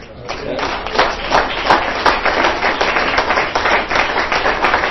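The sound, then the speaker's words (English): An audience claps steadily throughout, a dense, continuous patter of many hands with a few sharper, brighter claps standing out, fairly loud and sustained without pause. “Well, if you're clapping for God, that's all right.”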